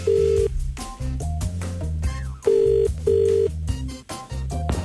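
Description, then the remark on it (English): A telephone call being placed to a Tesco store in Liverpool: a quick run of steady electronic dialing tones changing pitch, then the repeated purr of the ringing tone, clear, with no voices. “We thought we'd phone up another Tesco in Liverpool.”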